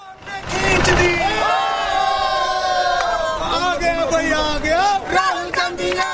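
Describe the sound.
A loud crowd cheers and chants in the streets of New Delhi, India, celebrating the Congress party's election win before the result is official, many voices shouting together in sustained, rising and falling cries, with traffic noise rumbling underneath throughout.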